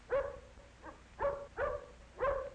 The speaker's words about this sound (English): But the big dog growls at Tippy.